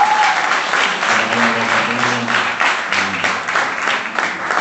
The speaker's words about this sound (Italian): Chiesa, facciamo un applauso a questi nostri amici.